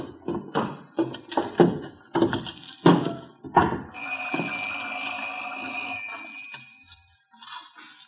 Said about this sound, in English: Well, the door's open. Should we go in?